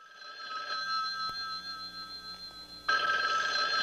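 A telephone rings with a steady electronic trill, clear, its tone brightening and growing louder toward the end before an answering machine picks up; no voices are heard.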